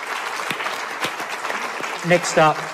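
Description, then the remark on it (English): An audience claps steadily to thank two speakers, a dense wash of hand claps with a few sharper individual smacks. Near the end, a voice briefly rises over the applause. “So again, just a quick round of applause for”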